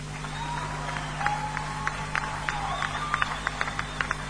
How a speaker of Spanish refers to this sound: Bueno, yo pido un aplauso fuerte